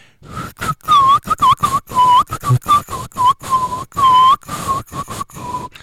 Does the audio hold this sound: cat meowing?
no